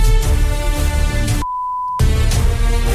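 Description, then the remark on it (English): A loud, dense piece of music, the Traitors theme tune, cuts out briefly while a single steady censor bleep sounds for about half a second, then the music resumes. “And these are what we call in the business sensor beeps.”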